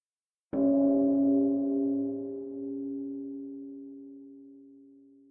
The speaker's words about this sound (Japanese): 今年も除夜の鐘が鳴ってるね。